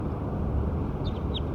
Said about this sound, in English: So recording bird 6 again.